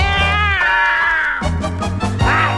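Two drawn-out, wavering meows, a long one and then a shorter one, ring out loudly over a steady rhythmic musical backing. The meows sound like a voice imitating a cat.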